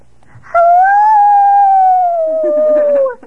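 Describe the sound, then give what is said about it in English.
A single long, loud howl from a voice imitating a dog baying at the moon, held steady for a few seconds and then sliding slowly down in pitch before fading off. “How do they bark at the moon?”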